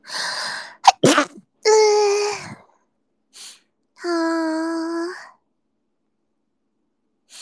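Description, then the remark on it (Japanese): A breathy intake leads into one sharp sneeze, followed by a couple of drawn-out voiced vocalizations and a brief pause of quiet. “くしゃみしそう。”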